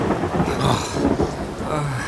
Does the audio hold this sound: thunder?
yes